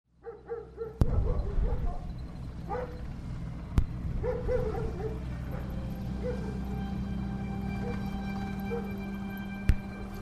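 A dog gives a few quick yipping barks, then keeps up intermittent whimpers and barks over a steady low droning background, broken by occasional sharp cracks.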